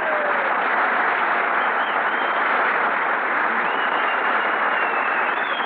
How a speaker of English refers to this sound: Oh, you hear that whistling? Sounds like Whistler's brother out there.